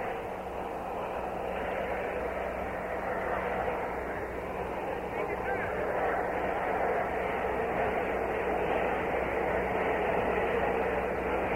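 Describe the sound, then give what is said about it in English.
A steady, loud turbine roar of President Lyndon Johnson's Army helicopter, a new turbine model, running up as its huge rotors begin to spin before take-off, with a dense mechanical rush and low hum holding constant throughout, with no speech. “It's one of the new turbo models, turbine helicopter, and it is prepared to take off momentarily.”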